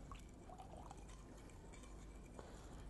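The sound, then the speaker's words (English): Rose water pours steadily into a bowl of sugar, water and saffron mixture for a few seconds, a soft continuous trickle with faint splashes over a constant low background hum. No one speaks. “And rose water.”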